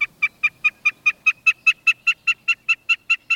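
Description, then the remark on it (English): A snipe sings from the ground: a steady, rapid series of about sixteen identical sharp notes, evenly spaced and fairly loud, repeating like a mechanical chant with no talking. “Snipes also sing from the ground.”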